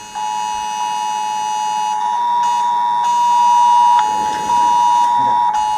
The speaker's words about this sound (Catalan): És l'alerta de Protecció Civil per informar d'una situació d'emergència que avui s'ha aprovat a les comarques del Maresme, la nostra, però també al Vallès Occidental i al Vallès Oriental, al Barcelonès i al Baix Llobregat.